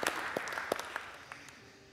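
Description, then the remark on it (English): At a church vision lunch, a crowd applauds the people who help prepare the church each week. It is a dense patter of many hands clapping at once, with a few sharper individual claps standing out early before the sound thins and fades toward the end. “We were just applauding for you.”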